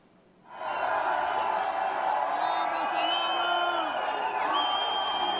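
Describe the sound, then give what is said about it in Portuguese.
A large crowd awaiting Bolsonaro's arrival by van at TV Cultura erupts into loud, sustained shouting and cheering after a brief quiet start, with overlapping voices and whoops forming a dense, continuous roar. “Olha o desespero dos bombeiros da TV Cultura, porque eles nunca imaginavam que ele ia encontrar uma multidão dessa esperando um sujeito para descer, né, do carro ali, de uma van, para entrar na TV Cultura.”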